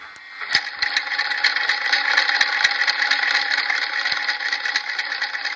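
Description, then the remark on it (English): A sewing machine runs steadily, a dense mechanical whir with rapid, regular clicking and rattling. It starts after a brief pause and continues evenly for about five seconds with no talking. “A sewing machine.”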